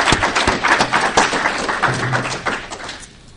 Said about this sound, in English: You've all done a great job, so a round of applause for the speakers and the staff.